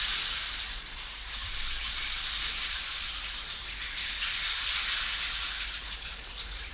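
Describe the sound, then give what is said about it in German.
A waterfall in a forest clearing roars steadily throughout, a dense, unbroken rush of falling water with a bright hissing spray, fairly loud and constant with no voices. “Und auf einmal ist da vor dir eine Lichtung und ein Wasserfall stürzt vor dir herab.”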